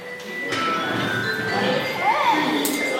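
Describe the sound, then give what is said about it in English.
A school bell rings steadily at Hangzhou Technician Institute in China, calling students to class, its bright, metallic tone holding for the full few seconds over a busy background murmur that may include faint voices. “The school bell ushers a new generation of robot engineers to class.”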